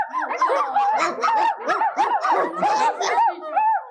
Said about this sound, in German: Es ist nämlich wie so ein Zoo und da vorne seht ihr zum Beispiel, ich mache den Vorhang auf, es ist nämlich ein Zaubershow in einer Zauberschule, ich mache den Vorhang auf und da seht ihr ganz viele Hunde. Hört ihr die Hunde auf?